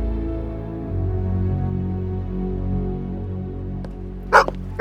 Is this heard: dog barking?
yes